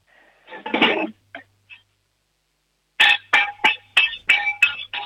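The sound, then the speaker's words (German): A short metallic clatter, then a pause, followed by about seven loud, evenly spaced bangs on a cooking pot with a spoon in a kitchen in Upper Austria, each strike leaving a bright ringing tone. “Oh, das wird schon mal ein Kochtopf gewesen sein.”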